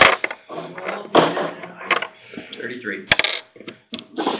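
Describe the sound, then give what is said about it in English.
Percentile dice clatter and tumble across a hard surface in a run of sharp, rattling clicks and knocks, with muffled voices murmuring underneath, rolled for a charge into combat in a tabletop role-playing game. “Roll percentile dice.”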